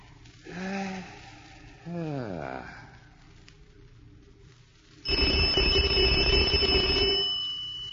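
A doorbell rings as someone is at the door of a home: a loud, harsh electric buzz lasting about two seconds, preceded by two short humming tones, the second sliding downward in pitch.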